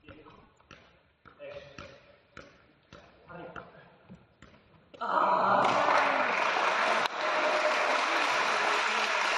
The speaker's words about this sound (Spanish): Y en directo, Fermín, en el pabellón, se escuchaba así, atento a cómo se escuchan los toques y obviamente la ovación cuando terminaron.